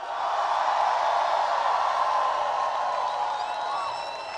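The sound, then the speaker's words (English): A large crowd claps and cheers for Joe Biden in a steady, dense roar that holds for several seconds, with a few high whistles rising over it toward the end. No one speaks. “Before we get started, I want everybody to give a big round of applause to Joe Biden.”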